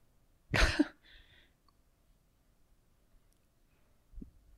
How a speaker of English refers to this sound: His cough is almost as bad as yours. Almost.